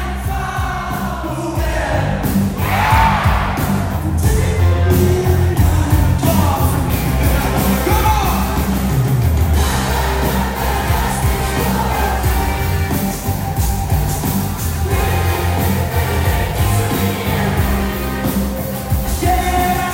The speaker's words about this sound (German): Ja, und so weiter und so fort. Publikum hört ihr durchaus begeistert.